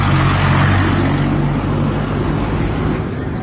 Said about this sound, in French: Ah oui, là, je n'avais pas regardé du bon côté. Il y a l'énorme camion.